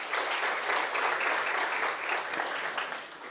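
An audience breaks into applause for a man in the audience, a dense, steady wash of many hands clapping that holds at an even, fairly loud level throughout with no voices on top.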